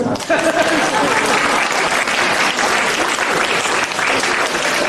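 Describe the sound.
Steady audience applause fills the room, dense clapping from many hands at a constant, fairly loud level for the whole stretch, with faint voices mixed underneath.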